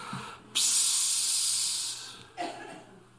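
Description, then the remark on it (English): A voice makes a long, steady hissing "psss" imitating air escaping from a cheap vinyl air mattress laid on a floor covered with broken glass, holding for about a second and a half before fading, followed by a short breathy sound. “I practiced my sound effect all week, so.”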